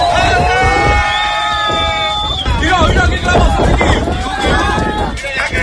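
Several people shout and yell loudly from the port in Barbate, Cádiz, cheering on a narco speedboat that rammed a Guardia Civil patrol boat. Their drawn-out cries rise and fall in pitch over a constant rumbling, wind-buffeted background for the whole clip.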